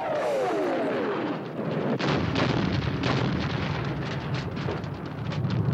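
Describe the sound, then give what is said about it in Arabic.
A falling whistle gives way to a heavy blast, followed by a dense, continuous stretch of explosions and rapid gunfire bursts: three explosions and bursts of gunfire from the direction of Baghdad International Airport. The sound is loud, with no voices. “ثلاث انفجارات ورشقات نارية.”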